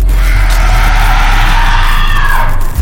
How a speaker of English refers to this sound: There's a strangled screech.